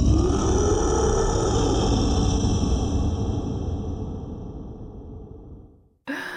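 A deep, rumbling fantasy-monster growl for a horror scare piece rolls on for about six seconds, loud and guttural with a rough low-pitched texture, slowly fading before cutting off, then a short burst of another harsh sound begins.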